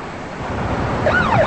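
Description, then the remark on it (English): The siren of an unmarked police car pulling up on a busy street swells in over steady rushing background noise, its wailing tone sweeping up and down in the last half second, growing louder as it nears. “As an unmarked police car pulls up, she quickly turns the other way.”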